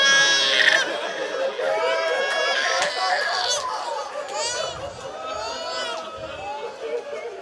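A young child cries and wails in high, wavering, drawn-out bursts, fairly loud, continuing steadily throughout without pause.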